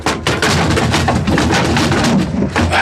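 Calimán throws his 90-kilo body hard against a door in a series of heavy, booming thuds, each impact cracking through a loud, continuous wash of rumbling noise, with no voices.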